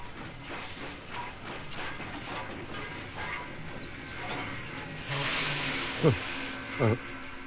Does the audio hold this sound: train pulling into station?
yes